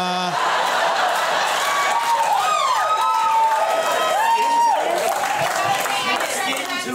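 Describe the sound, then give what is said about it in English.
A crowd cheers loudly and steadily for several seconds at a crowd response contest, with scattered clapping, shouts and a few rising and falling whistles cutting through the roar. “All I'm saying is, you know, this is a crowd response contest.”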